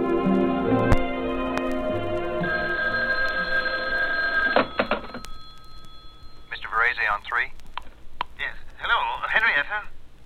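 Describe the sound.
A telephone rings with a steady, tinny electronic tone for several seconds as a call to a husband is put through from an office desk, then stops, and a thin, muffled voice follows as if heard through a phone line.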